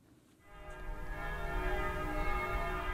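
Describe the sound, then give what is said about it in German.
The bells of the Konstanz Minster (Konstanzer Münster) in Konstanz ring out, fading in from a hushed start into a loud, dense wash of overlapping, sustained metallic tones with no voices present. “Hier der friedliche Glockenschlag des Konstanzer Münsters”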